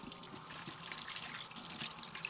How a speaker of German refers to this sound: Und wenn ich dann das zweite Mal mit Happy Birthday to you fertig wäre, könnte ich meine Hände abspülen. Das mache ich jetzt.